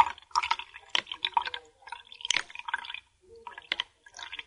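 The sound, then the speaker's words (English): A pile of coins weighing 18.6 grams in total plopping into water one after another to measure their density, bright plinks and small splashes in an irregular burst, with a brief pause partway through. No one speaks. “if you could drop them in the water”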